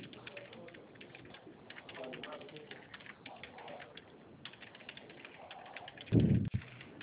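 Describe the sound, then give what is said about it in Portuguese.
Soft, irregular clicks of typing a WhatsApp message on a phone or keyboard tap away steadily, with faint murmuring voices underneath and a brief, louder thump near the end. “Tô digitando.”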